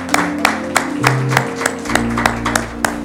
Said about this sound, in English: Lord, a hand clap of praise.